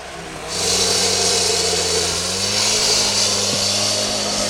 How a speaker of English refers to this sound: And so I'd say right now about half of the concrete here is gone. They've been working all morning, hammering away at the concrete.